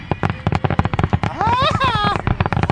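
fireworks exploding

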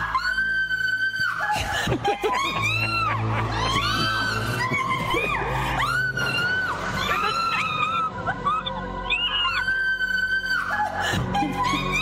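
woman screaming in fright

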